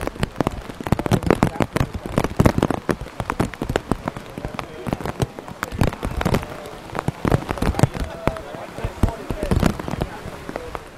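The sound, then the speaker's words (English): Heavy monsoon rain pounds down in Fiji during a Survivor challenge, a dense, continuous clatter of drops striking surfaces, loud and unbroken throughout, with faint voices murmuring underneath. “I have officially never seen it rain like this on Survivor. It is like full-on monsoon mode right now, and this challenge is happening, rain or shine.”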